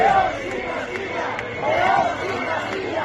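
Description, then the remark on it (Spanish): A large crowd of Leonese regionalists protesting in the streets of the city of León to claim a León region shouts and chants in unison, a dense, sustained roar of many voices with rising, swelling cries that surge and fade in waves throughout. “En León, Zamora y Salamanca, los leonesistas que han rechazado siempre esta celebración han salido a las calles para reivindicar la región leonesa. Es el sonido en la capital de León.”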